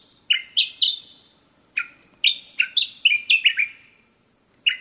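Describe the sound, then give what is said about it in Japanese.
Sakhalin grasshopper warbler song from a bird in a tree behind a convenience store, next to a house: loud, clear whistled notes in quick bursts of three or four, each note sliding downward, repeated with short pauses and no voices. “声の出どころを探してコンビニの裏手へ回り、ついにエゾ潜入が鳴いている木を突き止めました。”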